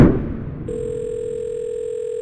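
telephone dial tone

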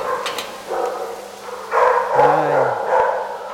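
dogs barking in kennels

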